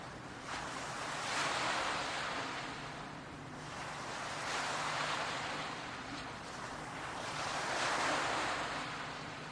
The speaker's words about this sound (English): see that it's just you on this beach. A calm, safe, pleasant place. And here you are relaxing near this gentle ocean.